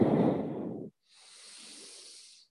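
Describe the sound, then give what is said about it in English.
Ujjayi breathing during yoga practice: a full, rushing breath lasting under a second, a short pause, then a longer, thinner, steady hiss like ocean-breath through a constricted throat. Moderately loud, with no talking. “Keep breathing Ujjayi, build the heat.”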